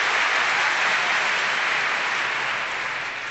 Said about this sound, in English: So, hold the applause till the end, please.